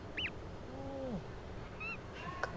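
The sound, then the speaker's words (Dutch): A newly hatched chick, still partly stuck in its eggshell on a roof, peeps a few times, short high-pitched cheeps scattered across a couple of seconds, with a lower, drawn-out bird call in between, fairly quiet. “Kijk nou. Een kuikentje.”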